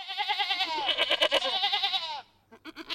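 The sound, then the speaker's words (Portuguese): A loud chorus of goats and sheep bleating over one another in wavering, nasal cries for about two seconds, then a brief lull before a few softer calls return. “O bom pastor, disseram as ovelhas e as cabras.”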